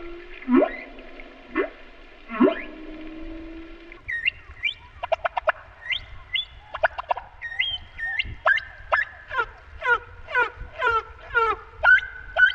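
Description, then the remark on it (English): Sped-up humpback whale song: a few drawn-out, harmonic upswept calls, then a quick rhythmic run of chirping, warbling notes that sounds much like bird song, over a low rumbling background. “If you speed up a humpback whale song, it sounds a lot like a kind of rhythmic bird song, like a mockingbird or a nightingale.”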